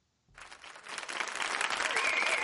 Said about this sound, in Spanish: Rafa Herrero, como siempre, siempre se merece un aplauso.